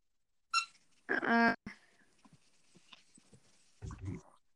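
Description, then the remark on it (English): A dog squeaking at its toy lets out a short high squeak, then a louder, longer whining squeal, followed by quieter snuffly noises and a soft low rumble near the end. “No, my dog's just squeaking at his toy.”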